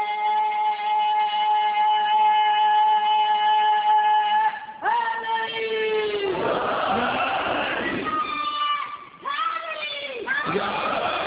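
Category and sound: crowd, crowd chanting slogans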